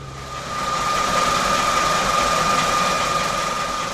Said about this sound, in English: What you're now hearing is a water pump which irrigates crops. It uses diesel as fuel, and well, it's quite noisy. But this noise could soon become a thing of the past.